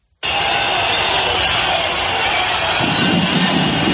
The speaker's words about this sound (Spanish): No consiguió Sánchez con su retraso evitar el pitido, el abucheo